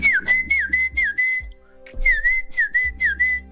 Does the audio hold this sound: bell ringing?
no